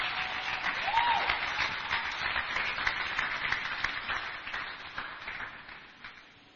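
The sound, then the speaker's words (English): A crowd claps and applauds steadily for several seconds, a dense wash of many hands that holds strong before gradually thinning and fading toward the end. “Clap your hands for them.”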